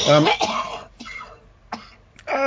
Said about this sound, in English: sorry about that, listeners. We don't normally have coughing and spluttering on the show, apart from when I choke on my Pepsi Max.